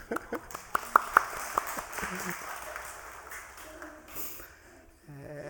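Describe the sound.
A gathering of people applauds, a dense patter of many hands clapping with a few sharper individual claps standing out, gradually thinning out as voices begin to murmur underneath.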